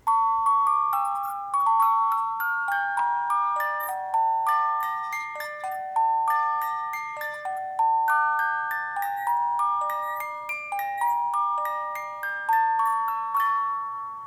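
A music box plinks out a slow, steady melody of bright, bell-like notes, each one ringing and decaying before the next, played close and clear with no voices.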